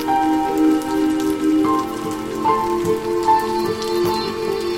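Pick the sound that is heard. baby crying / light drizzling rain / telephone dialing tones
light drizzling rain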